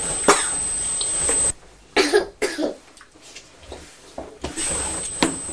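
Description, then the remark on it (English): A child coughs repeatedly in a series of harsh bursts, with a few throat-clearing sounds between them, over a steady background hiss. “And then you were the one that started coughing.”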